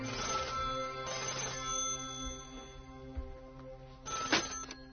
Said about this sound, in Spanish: Alguien llama por teléfono.